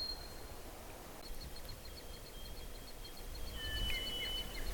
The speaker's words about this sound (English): There's a sound I hear of baby woodpeckers. I see a hole. And I hear the sound. If I wait, I'll find out what kind of woodpecker it is. It's just a little, kind of a quiet sound.